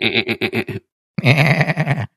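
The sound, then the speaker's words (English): Human voices mimic goat bleats: first a short, stuttering, quavering bleat, then after a brief pause a longer, louder wavering one. Both are clear, with no normal speech. “Either that or the goats, right? The goats.”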